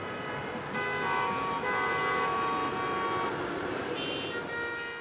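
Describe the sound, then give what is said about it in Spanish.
Busy street traffic in the town of El Espinal, Tolima, with overlapping car horns honking in long, steady tones over a constant engine rumble, loud and continuous throughout with no voices. “Con calles ruidosas invadidas por el caótico tráfico.”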